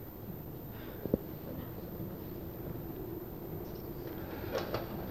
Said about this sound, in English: Need to open the doors.